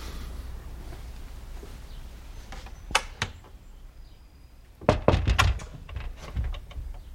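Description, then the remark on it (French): A door is shut: a couple of light clicks of the handle, then a heavier cluster of wooden thuds and rattles as it closes, over a quiet hum. “Comme le dit si bien Alfred de Musset, il faut qu'une porte soit ouverte ou fermée.”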